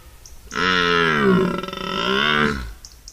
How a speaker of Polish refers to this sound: Koncerty ssaków, choćby naszych jeleniowatych, bo tutaj kiedy przychodzi wrzesień, październik i rozpoczyna się okres godowy jeleni, to mamy wspaniałe rykowisko.